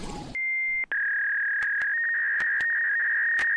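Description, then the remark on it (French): Dial-up modem connection tones: a brief burst of noise, then steady electronic beeping tones that hold and shift slightly in pitch, broken by sharp clicks, loud and alone with no voices. “Alors ça y est, nous sommes connectés et être connecté avec Kitri Delmas, ce n'est pas du 56 kilobits d'un modem version UDF”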